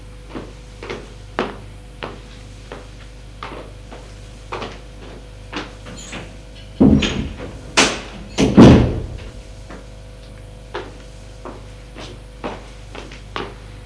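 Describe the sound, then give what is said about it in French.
Steady, soft footsteps tap along at an even pace throughout, broken midway by a few louder knocks and a creak as a door is opened, then the footsteps carry on. “Il a entendu des pas, une porte qui s'est ouverte.”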